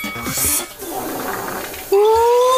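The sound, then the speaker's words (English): A paint sprayer hisses steadily as it mists blue color, a Cam the Builder construction-vest color, onto a birthday cake, then a motor kicks in with a loud, steady whine that slowly rises in pitch over the spray. “I'm gonna hook this up to the sprayer and spray this color onto the cake.”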